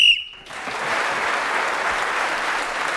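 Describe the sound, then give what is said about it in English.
A single short, shrill whistle blast ends a panel game round as Clement Freud is speaking, then an audience breaks into steady, loud applause that carries on to the end. “Clement Freud was then speaking as a whistle went, gained that extra point, and he's now just 1 point behind our leader, Jenny Eclair.”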